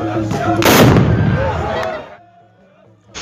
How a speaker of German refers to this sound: Nach dem Verbrennen wird die Asche der Anlage mit Schissepulver, Salz und Schwefel vermischt und in die Kapsel gepackt, die unter dem Abzug platziert wird. Um beim Abfeuern eine laute Explosion zu verursachen.